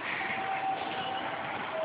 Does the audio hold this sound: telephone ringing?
no